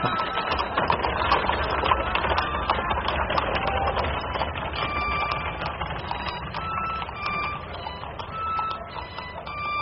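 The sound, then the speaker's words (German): A horse-drawn cab (Droschke) carrying Georges Duroy pulls away, hooves clip-clopping in a steady rhythm over a continuous rumble of wheels, holding a fairly even loudness throughout with no one talking. “Georges Duroy rührte sich nicht in der Droschke aus Angst vor einem Skandal. Dann fuhr der Wagen los.”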